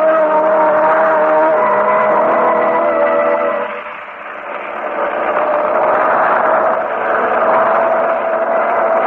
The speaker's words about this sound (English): I've ridden in things more comfortable than this gasoline truck, Mr. Harding.